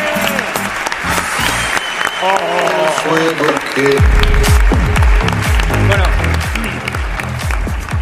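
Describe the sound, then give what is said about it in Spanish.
An audience claps loudly and steadily for the Grupo Risa for the whole eight seconds, with cheering voices mixed in; about halfway through, a low, booming musical beat enters beneath the continuing applause. “Un aplauso para el Grupo Risa, enorme.”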